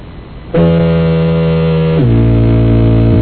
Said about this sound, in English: Here is foghorn.